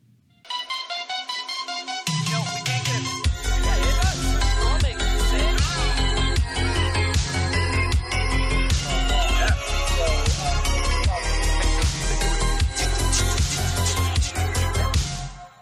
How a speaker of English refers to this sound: Theme song.